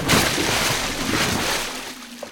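A heavy body, Major Brower thrown by the Headless Horseman, splashes into a river, followed by churning, sloshing water that stays loud before slowly settling over a couple of seconds.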